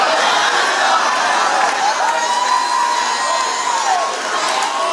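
A large crowd shouts, cheers and rejoices in praise of God continuously, a loud, dense roar of many voices with whoops and high-pitched cries rising throughout, sustained without a break.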